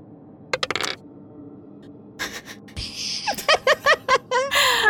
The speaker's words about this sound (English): I have a good plus on intelligence, but I rolled a 3. Ooh, get rid of that dice.